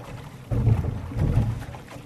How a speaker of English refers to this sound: The sun's just barely coming up towards the end of the row. And as everything kind of falls into place, you're sitting in the boat and you can hear the oars just clicking through the water.